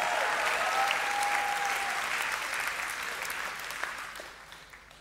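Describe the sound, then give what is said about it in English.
An audience claps and roars together in a dense, steady wash of applause and cheering that holds for several seconds, then eases slightly toward the end, roaring in response to a call to roar during a church service. “Where are the lion hearts in the room today? Let me hear you roar.”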